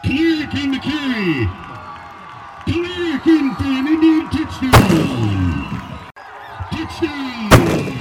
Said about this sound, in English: The cannon, affectionately known as the Indianola Artillery, fired off by caretakers